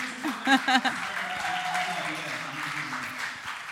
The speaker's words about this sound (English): I think you can applaud yourself and applaud your pastors.